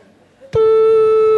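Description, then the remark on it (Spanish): After a brief soft murmur, a loud, steady telephone ringing tone begins abruptly as someone outside at the door phones their elderly mother: a single unbroken mid-pitched electronic beep holding at constant volume to the end, with no talking. “Mira, me salgo fuera a la puerta, me pongo a llamarla allí.”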